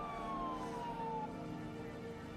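An ambulance siren wails steadily and loudly as the ambulance departs, taking a car accident victim to hospital, its pitch sliding slowly downward, with a low road rumble underneath and no voices.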